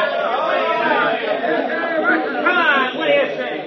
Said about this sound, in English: Well, now, here's Jackson coming up. The crowd's howling for something to happen. They're really fighting mad. We'll turn up our field microphone so you can hear them.